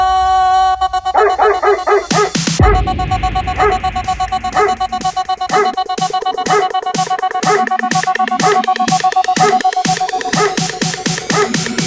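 Dog barks repeat in a steady rhythm over a sustained musical tone, loud, with a brief burst of noise early on and no one speaking.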